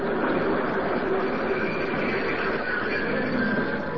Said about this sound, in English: Train's coming.